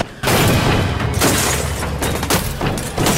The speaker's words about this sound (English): Amongst the grotesque, clamoring crowd, Big Daddy raises the jackhammer and pounds away at the glass.